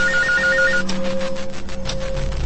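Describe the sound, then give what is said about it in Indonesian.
A call center telephone rings at 2 a.m. with a warbling electronic trill that repeats in quick pulses, followed by a steady tone and rhythmic buzzing, fairly loud with no voices. “Sampai aku tersadarkan ketika mendengar bunyi telepon.”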